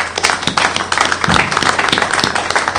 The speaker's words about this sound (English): Well, how about a round of applause for the project?